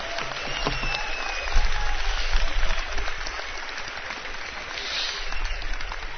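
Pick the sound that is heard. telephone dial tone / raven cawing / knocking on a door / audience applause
audience applause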